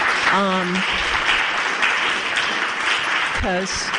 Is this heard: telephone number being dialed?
no